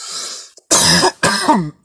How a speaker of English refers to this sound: Well, sorry, there's my talking cough again.